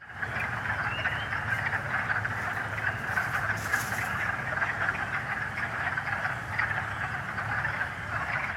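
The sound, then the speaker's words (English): A dense, unbroken chorus of small spring peepers chirping high like crickets, with a lower, deep, throaty clucking rumble of wood frogs beneath, steady and full throughout, with no voices, heard in spring on entering the woods on a walk with a dog. “That chirping sound like crickets in the background, those are the spring peepers, the little ones.”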